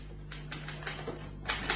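Typewriter keys clack in a short, uneven burst of strikes over a low steady hum with no voices.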